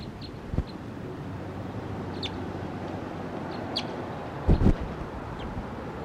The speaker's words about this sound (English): Recording, a wild bird flew down and perched next to 301.